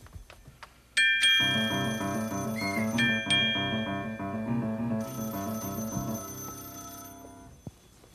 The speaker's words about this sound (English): Oh, excuse me, Charlie, the phone.